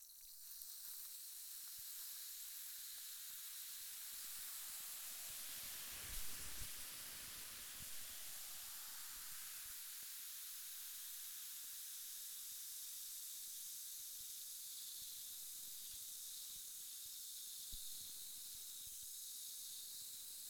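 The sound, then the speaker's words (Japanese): A steady fizzing hiss of carbonated bubbles crackling continuously, soft and bright, used as an ear-cleaning sound, with a brief low bump partway through and no one speaking. “炭酸が弾ける音ってなんだかワクワクしませんか？”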